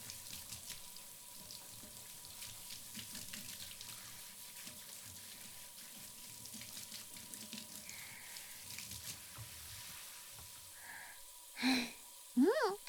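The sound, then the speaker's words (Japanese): Hot water is poured over a person's shin to test whether it is too hot or lukewarm, in a steady, soft splashing trickle, ending with a few louder, brief splashes. “マスター、ちょこっとすねにかけてみるっちゃ。熱いぬるいあったら遠慮なく言うてね。”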